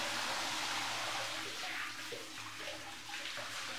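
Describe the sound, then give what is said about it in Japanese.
Running water pours steadily in a broad splashing rush, rinsing shampoo lather off hair after both the right and left sides have been washed. It is continuous and fairly loud, with no one speaking. “右側も、左側も、洗い残しがないように、丁寧に洗って、よし、流すよ。目つぶってね。”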